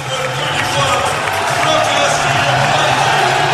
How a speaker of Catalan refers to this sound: Us queda clar, no? Us queda ben clar amb qui va el públic de Lituània. Aplaudiments per Jokubaitis, i ara anunciaran l'entrenador.